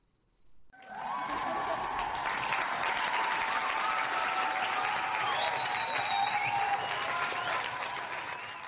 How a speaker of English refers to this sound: So Mom's Wine and True Crime, check them out anywhere you get your podcast, and we're going to give them a round of applause.